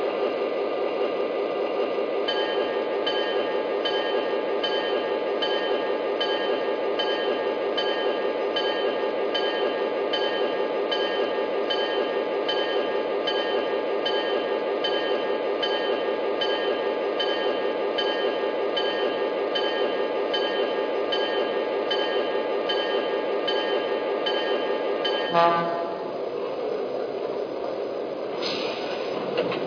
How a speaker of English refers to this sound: track one, train number 53, City of Miami.